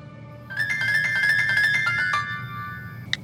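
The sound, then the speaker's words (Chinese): A phone rings with a bright, warbling electronic trill lasting about two seconds, followed by a short single beep, heard clearly over a low background hum with no one speaking, as a call comes in at a home in Guangzhou. “好，我们的故事就从梁海清在广州的家里接到一个电话开始吧。”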